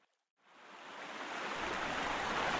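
The strong current of a quite deep river rushes steadily, a dense, continuous roar of flowing water that swells in within the first half second and stays loud throughout.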